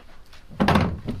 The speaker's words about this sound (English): Oh, the door. Yes, I'll go. Who is it?